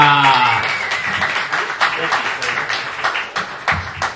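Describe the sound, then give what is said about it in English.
An audience at a comedy show applauds as the next house comedian is introduced, with dense, steady clapping that fills about four seconds at fairly even loudness, a brief voice audible at the very start. “Give a round warm of applause for my brother”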